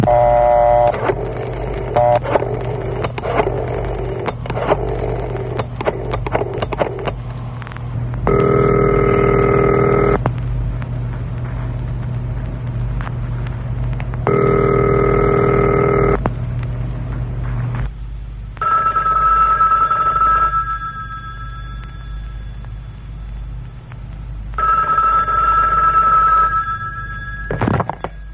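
A telephone rings loudly in repeated bursts of about two seconds, separated by pauses, after a short stretch of clattering mechanical noise at the start, with a steady low hum throughout.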